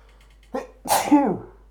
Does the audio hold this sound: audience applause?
no